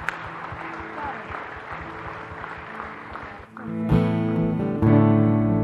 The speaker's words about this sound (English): Amen. Amen. Can we applaud heaven today?